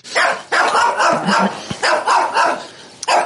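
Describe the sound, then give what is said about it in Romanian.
Two chained Pekingese dogs, Valera and Stefano, in the yard of a peasant-artistic farmstead, bark in a loud, nearly continuous run of sharp, high yaps, with barely a pause between the seven or eight bursts and no talking over them. “Valera și Stefano, doi pichinești, sunt pe lanț.”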